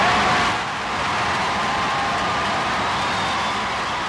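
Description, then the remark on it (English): A large crowd applauds and cheers loudly and without a break, a dense wash of clapping and voices holding steady for the whole stretch. “It was during that raucous applause that someone passed a note”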